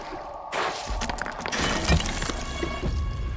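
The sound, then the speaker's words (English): A heavy crash as a wide axe head smashes through a wooden table, the wood splintering and breaking apart, followed by a loud, sustained clatter of debris and crackling fragments falling. “Barely escaping, Amvidar barreled off the table, the wide axe head shattering it upon impact.”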